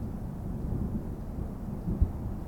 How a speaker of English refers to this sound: I stared out at the mountains and dark sky before me, the storm finally moving on.